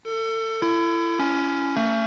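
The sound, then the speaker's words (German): The school bell gong of the Heinkrabenschule, heard in the stairwell at the end of school, plays four sustained electronic chime tones in a steady sequence, each note stepping lower in pitch, loud and clear with no voices. “Habt ihr gut aufgepasst, wie oft es an einem Schulvormittag in der Heinkrabenschule gongt?”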